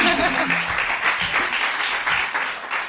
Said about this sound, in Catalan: Així que, sobretot a vosaltres, moltes gràcies per venir. Un aplaudiment per vosaltres també.